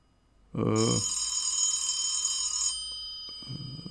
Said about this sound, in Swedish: Vad fan? Det ringer. Hur fan kan det ringa? Jag har ju ingen telefon inkopplad.